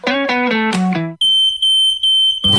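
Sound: smoke detector alarm beeping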